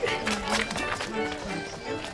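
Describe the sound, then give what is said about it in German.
Quick, hurried footsteps of two crooks running away, a rapid series of thumping steps that stays steady, with a faint tonal murmur underneath. “Und die beiden Gauner rannten davon.”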